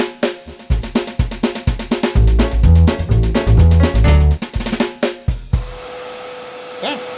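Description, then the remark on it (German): Rhythmic, bouncy thumping music plays, then gives way to a vacuum cleaner running with a steady, airy whir and a faint motor hum for the last couple of seconds. “Wir müssen den Staubsauger verschließen.”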